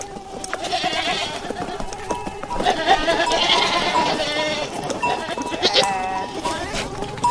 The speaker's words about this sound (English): But we can share one of its many sophisticated soundscapes. It's an amazing sounding and looking movie. This particular audio clip has flies buzzing and goats moaning, whatever goats do, and much, much more. Have a listen.